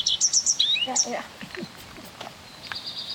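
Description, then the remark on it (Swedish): A redstart sings a quick run of varied, high chirping notes, some short and some gliding, followed by a thinner sustained whistle, answering a recording played from a speaker; the song is fairly clear against a quiet outdoor background. “Det är ju lite varierande sångtoner.”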